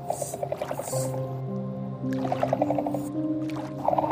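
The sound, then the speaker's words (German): A capybara lying in shallow water gives a soft, low, contented humming rumble with a steady purr-like pulsing throughout, gentle, with faint wet squishing and dripping sounds mixed in. “du hörst sein leises, zufriedenes Brummen, das ein bisschen an das Schnurren einer Katze erinnert.”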